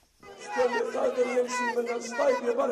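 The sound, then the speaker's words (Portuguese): Supporters of Algerian presidential candidate Abdelaziz Bouteflika shout his name together at a campaign event in the city of Annaba, eastern Algeria. Loud massed voices rise and fall in steady chanting waves for a few seconds. “Os apoiantes de Abdelaziz Bouteflika gritam o nome do candidato.”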